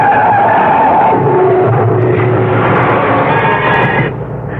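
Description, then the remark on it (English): A car's tires screech in a long, loud skid lasting several seconds at a blind corner, with a harsh squealing whine over engine rumble, cutting off abruptly near the end as it bumps into a car that stopped short. No voices. “Thanks to that safety belt, that was a nasty bump.”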